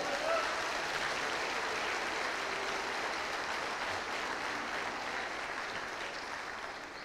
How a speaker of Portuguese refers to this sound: Você pode dar um glória a Deus aí. Aplauda Jesus.